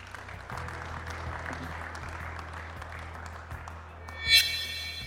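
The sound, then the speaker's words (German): Sustained applause from a live audience for a panel of fire service officials at the Rettermesse 2025 in the exhibition hall in Wels, a dense steady patter of many hands clapping for several seconds, with a brief bright ringing tone near the end. “Großen Applaus für unser Podium.”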